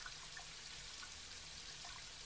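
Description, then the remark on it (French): Gentle water trickles steadily, a continuous bright babbling with small bubbling accents, fairly quiet, with no voices. “Et écouter le bruit de l'eau qui chante.”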